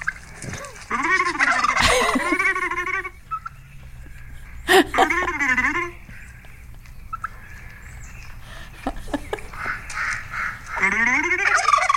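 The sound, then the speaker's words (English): A turkey gobbles loudly in three rapid, rattling bursts, at the start, middle and end, with softer clucks and chirps filling the gaps between them. “Turkey to me, baby.”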